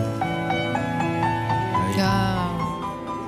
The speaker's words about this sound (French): ça c'est la musique d'un film qu'on a revu très récemment.